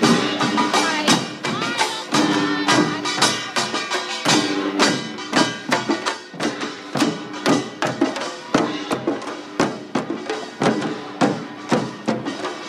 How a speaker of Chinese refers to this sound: 此外，由华埠的老人中心所组成的腰鼓队，虽然平均年龄都不小了，但是个个都精神抖擞的卖力演出，亦博得不少的掌声。下面请听听他们敲击腰鼓的片段。